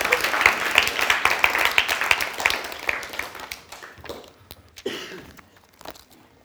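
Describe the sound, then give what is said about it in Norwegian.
A burst of applause from a group for the technicians, dense and crackly for about four seconds, then thinning out to a few scattered claps as it fades. “Ja, applaus til teknikerne.”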